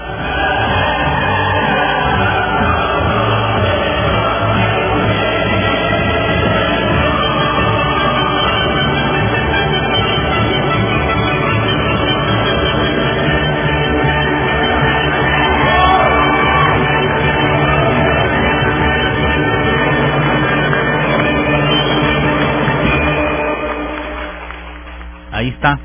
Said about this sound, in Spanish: Por eso es el himno a la alegría del maestro Beethoven, y por eso son los aplausos correctos.